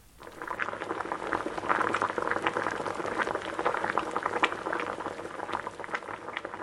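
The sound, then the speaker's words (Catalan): A pot full of water over a large fire at a rolling boil, with dense, steady bubbling and popping that stays fairly loud throughout, with no voices over it. “Després es va esperar una estona fins que l'aigua va començar a bullir.”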